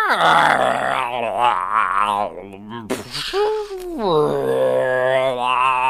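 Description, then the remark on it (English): A person imitates a deep roar with their voice: a loud, sustained, growling bellow that rises and falls in pitch, broken by a brief gasping break midway, imitating a roaring heard after a harpoon goes down to the bottom of a giant whirlpool. “You hear like a roaring, like a...”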